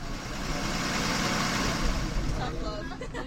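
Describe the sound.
A bus engine hums with a steady low rumble throughout, heard from inside the bus on a ride home, continuous and fairly loud, with a voice starting to speak faintly near the end.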